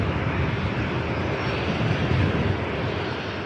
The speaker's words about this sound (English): Go around, holy moly! Wow! Going around, that is the roughest landing I think we've ever caught on our broadcast. Holy moly! Wow!